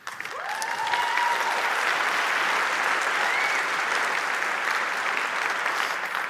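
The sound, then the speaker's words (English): A large audience claps steadily, a dense, sustained wash of applause that stays loud and even throughout, with a faint whistle rising briefly near the start. “Now, before you applaud too much, this was my idea 20 years ago.”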